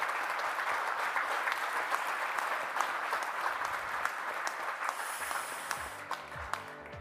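Sustained applause from an audience, a dense wash of many hands clapping at a steady, fairly loud level for several seconds, with a few individual claps standing out near the end.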